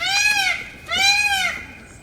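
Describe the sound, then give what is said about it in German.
A peacock, not fanning its tail, screams twice, each loud, nasal, wailing call lasting about half a second with a brief pause between them, high-pitched and rich in harmonics. “Ich höre es hier nur schreien, aber ich sehe den Vogel nicht, der da schreit.”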